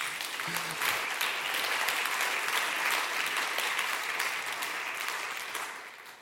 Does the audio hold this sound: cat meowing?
no